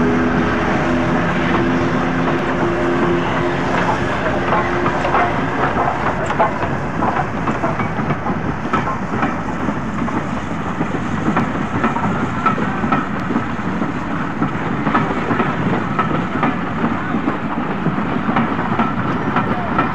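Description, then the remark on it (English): An electric locomotive's gearing whines and revs steadily as it tows the steam locomotive Flying Scotsman away, with rhythmic clanking of Flying Scotsman's connecting rods and rail clatter, continuous and fairly loud, no voices. “And you'll be able to pick out the noise of the electric locomotive gearing, revving up, and the conrods of Flying Scotsman as she moves away being towed by the electric locomotive.”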